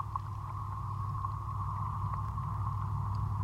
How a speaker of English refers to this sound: You can also hear traffic going by.